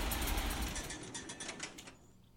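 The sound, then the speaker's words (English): A tractor engine chugs with a heavy low rumble and steady mechanical rattle, then winds down and cuts off near the end, leaving near-quiet. “The only hitch was that they didn't include the tractor turning on and off, but I was able to find close enough sounds”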